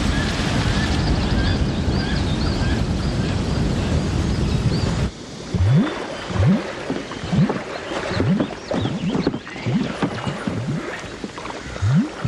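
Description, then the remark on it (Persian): A loud, steady roar of a large waterfall fills the first few seconds, then gives way abruptly to quieter rushing water with a series of low, rising groans repeating roughly every second. “صدای آبشاره. باید آبشار بزرگی باشه.”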